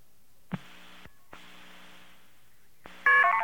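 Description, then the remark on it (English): Telephone tones over a phone line: two long, buzzy line tones separated by a short gap, then a sudden burst of louder, rapid dialing beeps at the end. No one speaks. “It's a special phone company recording. Let's see if we can get a clear connection here.”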